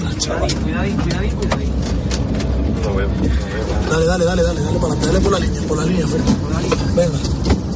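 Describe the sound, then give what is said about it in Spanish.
Steady, loud rumble of a car engine and road noise as a firefighting crew drives by car to the wildfire zone, with several people talking over it throughout. “Bueno, esto que escuchas es un equipo de extinción desplazándose en coche a la zona del incendio.”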